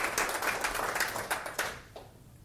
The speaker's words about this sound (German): hat einen Applaus verdient. Danke dir.